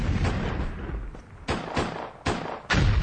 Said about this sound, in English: Incredible explosion effects.